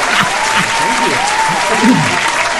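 Loud, sustained applause from a sizable crowd welcoming a guest, a dense wash of clapping with faint voices threading underneath.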